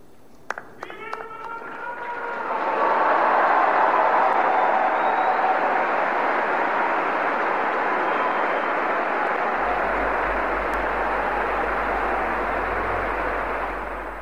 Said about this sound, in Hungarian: A taps vihar ma sem maradt el, ha nem is ilyen nagy tapssal, de mi is megköszönjük Ferenc pápa mai tanítását,